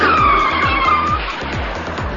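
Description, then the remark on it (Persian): A car brakes hard, its tires letting out a loud, sustained squeal for about a second over a steady engine rumble, then the skid fades into continued road noise. “بزن بگن، بزن بگن، بزن بگن، ترمز کن، ترمز بزنی تو دیگه.”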